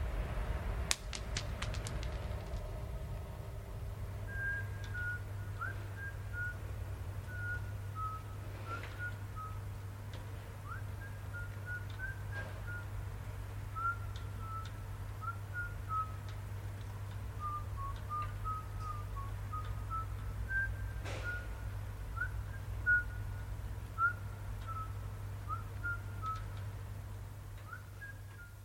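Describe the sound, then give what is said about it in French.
A person whistles a wandering melody from some distance, having walked away from a recorder set on a window ledge, the tune echoing faintly through the city over a steady low city hum, with a few sharp knocks breaking in now and then. “Poser l'enregistreur sur le bord d'une fenêtre et s'éloigner pour siffler dans les échos de la ville et faire croire à un passant rêveur.”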